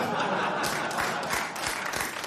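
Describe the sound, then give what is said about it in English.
A crowd of college students applauds a Houthi slogan, many hands clapping steadily in a dense, loud wash with a few sharper claps standing out and a faint murmur of voices mixed in. “Insane that we're cheering for the terrorists now.”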